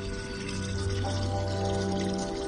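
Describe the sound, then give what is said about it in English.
Water pours steadily from a tap or pipe at a public borehole in Mbare, a poor, crowded suburb of Harare, Zimbabwe, a continuous rushing wash layered over a low, constant mechanical hum. No voices, just the flow running unbroken throughout. “Marjorie Sande manages this public borehole in Mbare, a poor and crowded suburb of Zimbabwe's capital city, Harare.”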